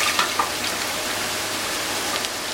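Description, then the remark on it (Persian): Half a litre of water pours steadily into a cooking pot of meat and beans, a continuous hissing rush with faint sizzling and a few small splashes, lasting the whole stretch without any voices. “من نیم لیتر آب اضافه میکنم”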